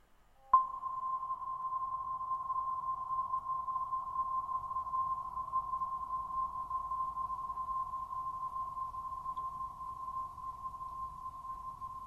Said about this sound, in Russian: У нас звонит колокол.